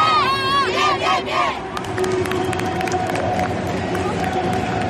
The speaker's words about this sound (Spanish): Gritos de sí se puede y seguro que con ese ánimo parten esta noche hacia tierras croatas.